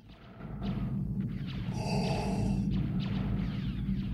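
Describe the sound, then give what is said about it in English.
One hissing, mechanical breath through the black helmet visor of a figure in black cape and armor aboard a starship rises and falls over a steady low rumble, fairly loud, with no talking. “Breathing through his visor, the black figure looks around and advances, followed by his white-armored stormtroopers.”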